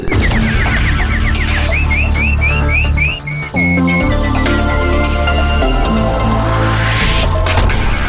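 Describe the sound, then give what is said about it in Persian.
Nightingale-like warbling introducing the detailed news: a quick run of bright, rising chirps repeating in a steady rhythm, set over a loud, continuous music bed that briefly drops out midway. “اینک مشروع خبرها با چهچهه مستانه همکارم بلبل.”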